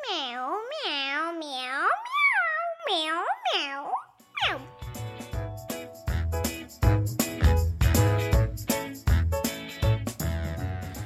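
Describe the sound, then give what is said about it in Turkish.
Four or five cheerful, sing-song meows in a row from Nisan, a cat, each rising and falling in pitch, then lively music with a bouncy beat takes over. “Nisan da keyifle miyavlıyordu.”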